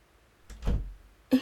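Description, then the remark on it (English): A door swings shut with a soft, low thud, followed a moment later by a sharp latch click, with no one speaking. “I close the door a minute?”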